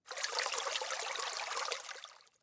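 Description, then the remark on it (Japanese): River water flows steadily at a deserted riverbank with a continuous bright, hissing rush, heard on its own with no voices, holding even for about two seconds before fading away. “この河川敷、誰もいないから閉めるには最適なんだよな。”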